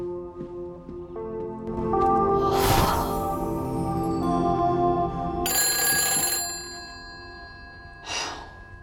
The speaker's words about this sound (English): She jumps as the phone rings behind her.